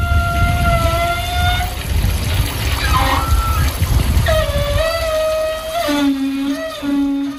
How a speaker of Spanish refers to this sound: Para mí es una ducha del cuerpo de la playa de las Canteras.